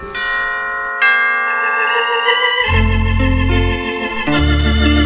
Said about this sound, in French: Ce que j'aime dans ce tune-là, c'est les cloches de Noël qui sont belles.